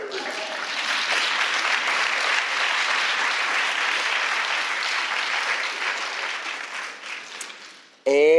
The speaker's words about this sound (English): We should just have a round of applause because I just said the name. Bam! Round of applause.